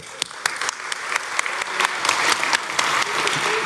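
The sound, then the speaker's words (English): An audience claps steadily for a speaker at a talk, a dense wash of hand claps with sharp individual smacks standing out, sustained at moderate loudness throughout without any talking. “Give a clap for this guy right here.”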